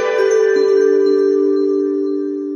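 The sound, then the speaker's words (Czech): A telephone rings with a steady, sustained electronic tone, loud, holding for a couple of seconds before easing slightly. No voices accompany it. “Opet zvoni telefon.”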